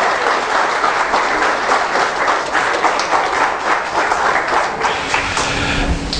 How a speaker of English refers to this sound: Ladies and gentlemen, let's welcome the internet world with a wonderful hand of applause in his house.